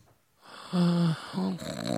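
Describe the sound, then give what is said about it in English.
A person imitates snoring with two rough, buzzing vocal snores, the first longer and louder, the second shorter, with a brief breathy lead-in and no talking. “An impression of somebody snoring.”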